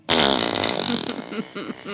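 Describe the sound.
A loud, buzzy fart noise lasting about a second, apparently blown with the mouth as a raspberry, followed by softer, uneven vocal sounds.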